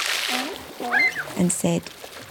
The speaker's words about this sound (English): Cyril jumped out of the way of a big splash of water